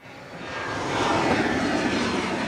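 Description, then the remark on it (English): A twin-engine turboprop plane taxis on the tarmac of a small airport south of Fort Myers toward several waiting SUVs, for a Humane Society Naples pet airlift after Hurricane Ian. Its steady engine drone swells over the first second, then holds loud and even, with no voices. “On the tarmac of a small airport south of Fort Myers, Sarah Beckler and a team from the Humane Society Naples wait for a twin-engine turboprop to taxi up to several waiting SUVs.”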